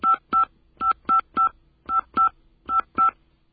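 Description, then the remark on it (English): Phone keypad tones as a 10-digit caller ID number of all fives is entered: about nine short, identical mid-pitched dual-tone beeps in quick, slightly uneven groups, clear and alone with no talking. “Please enter the 10-digit phone number you wish to appear on the caller ID.”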